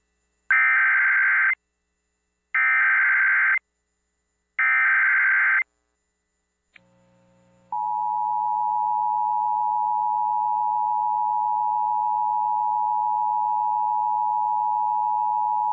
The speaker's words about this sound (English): is a test of the emergency alert and notification system for Duke Power Company's Oconee Nuclear Station. This message accompanies the testing of the sirens installed in the 10-mile area around the station.